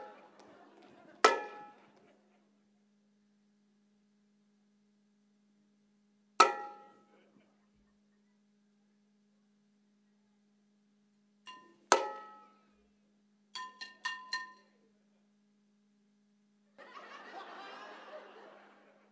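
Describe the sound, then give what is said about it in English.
Pots and pans are banged in sparse, ringing metallic clangs: three single strikes spaced several seconds apart, then a quick burst of three hits, followed by a short scraping rattle. “Can you go find me louder pans?”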